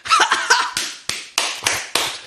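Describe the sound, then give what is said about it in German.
A hand slaps against a thigh in a quick flurry of sharp smacks, then four more spaced-out slaps, each with a bright crack and short decay. “Leute, hört auf, eure Schenkel zu klopfen.”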